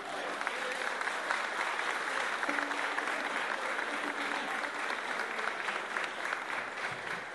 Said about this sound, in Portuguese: Já vamos saudá-lo com uma salva de palmas, que ele é o cozinheiro da vela.